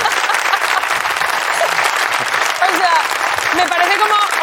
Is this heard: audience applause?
yes